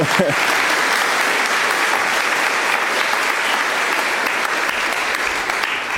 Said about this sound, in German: Und ihr könnt auch nochmal klatschen.